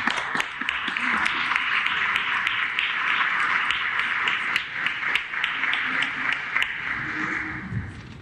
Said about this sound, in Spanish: Todos son representantes de la comisión. Un aplauso.